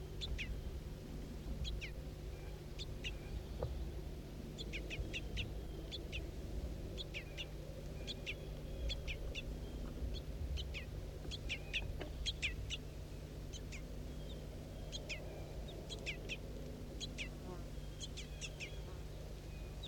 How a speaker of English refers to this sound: Start recording juvenile begging calls again.